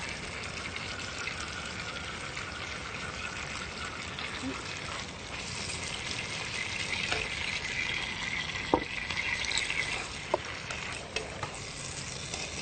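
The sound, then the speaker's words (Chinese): Thai basil being stir-fried in a hot pan for a sweet-and-sour tomato dish: a steady, dense sizzle fills the whole stretch, with a few sharp clicks of a utensil scraping the pan near the end. “它一下锅，它的香味都飘出来。”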